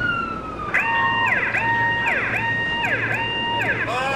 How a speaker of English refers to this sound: The alarm is something of a joke to help cope with the stress. It signals any number of things, but what the medevac crews wait for is called a 9-line. 9 lines of information signaling that their services are needed.